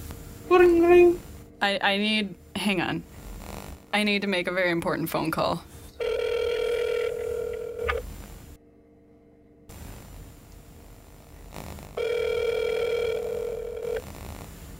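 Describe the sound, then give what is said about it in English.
A rapid string of electronic dialing tones at varying pitches as a phone call is placed, followed by two long buzzing telephone ringback tones separated by a few seconds of quiet, fairly loud. “I need to make a very important phone call.”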